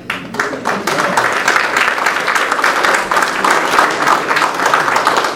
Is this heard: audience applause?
yes